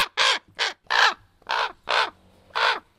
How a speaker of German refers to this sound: Ein weiträumiges Gehege voller Raben am Max-Planck-Institut für Ornithologie in Seewiesen nahe dem Starnberger See. 10 quicklebendige junge Raben hüpfen hier herum.